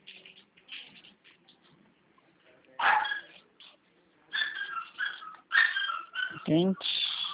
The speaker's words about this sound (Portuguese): Fala que tem um monte de cachorrinho, né? Oi? Tem um monte de cachorrinho aí, né? Não é nada, um só. É Chato um. pra caraca. Nossa, parece um monte. Muito chato, cara.